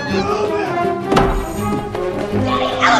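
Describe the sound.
A giant wooden Trojan horse is smashed through by two people and topples with a loud cracking thud, then a second heavier thump, over a busy bed of muffled voices and background noise.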